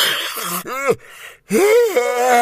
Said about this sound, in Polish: Ziewnęła ponownie, tym razem z taką siłą, że aż zadrżała w posadach skromniutka rybacka chatka, a obrazek ze ślubnym zdjęciem przekrzywił się na ścianie.